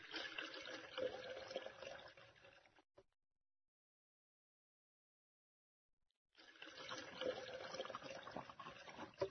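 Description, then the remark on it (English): Liquid is poured into a glass in two steady splashing bursts, each about three seconds long, separated by a brief silence. The sound is fairly loud, with no voices. “My glass is empty.”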